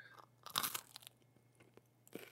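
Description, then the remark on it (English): Loud crunching of a man biting and chewing crisp food, with a big crunch burst near the start and a few sharper bites after, over a faint steady hum. “What is he eating? It's a crunchy.”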